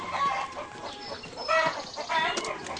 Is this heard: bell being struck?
no